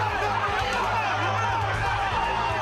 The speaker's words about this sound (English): Crowd here at the Hard Rock Casino starting to chant the name Level.